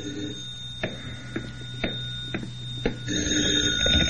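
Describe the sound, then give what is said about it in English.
A telephone rings in a hotel room with a steady, buzzing tone and sharp clicks about twice a second. It is moderately loud, and no one speaks. “But even as I started to open my door, the phone rang.”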